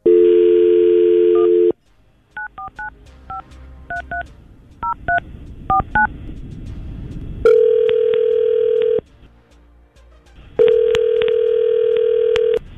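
A dial tone hums, followed by a quick series of touch-tone beeps as a number is dialed for a call from the 995QIK radio show, then two long ringback tones sound with a pause between them. No one speaks.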